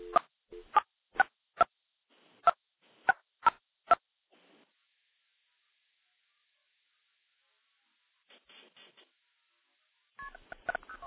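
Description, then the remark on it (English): A quick run of about nine crisp telephone multi-frequency dialing tones, dialing into a Project MF box through telephone switches including one in Alabama; evenly spaced short beeps, followed by silence, then faint clicks and a brief burst of garbled tones at the end. “Now we're going to dial into my Project MF box.”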